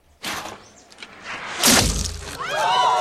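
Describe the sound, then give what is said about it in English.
An arrow fired by Filthy Lucre strikes and splits Robin's arrow in the bullseye with a sharp, loud cracking thud midway through, preceded by a softer rushing sound and followed by wavering higher-pitched tones. “Achu and Little John watch anxiously through the guards as Filthy Lucre loads his arrow, takes aim and fires, splitting Robin's arrow in half.”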